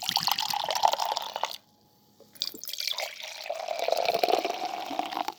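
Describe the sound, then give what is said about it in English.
Kombucha poured into a glass in a kitchen in two steady streams, a brief pause between them, with a bright splashing, bubbly gurgle and no voices. “Here, I'll pour you some.”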